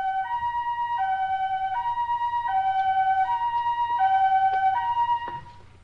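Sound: ambulance siren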